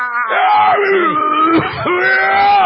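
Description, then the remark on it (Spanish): A loud, strained vocal outburst: drawn-out groaning cries that rise and fall in pitch, with a brief catch midway, a voice imitating the effortful grunts and screams of someone lifting weights at a gym. “Estos gritos y onomatopeyas.”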